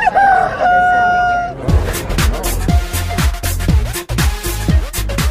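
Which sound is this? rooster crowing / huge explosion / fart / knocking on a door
rooster crowing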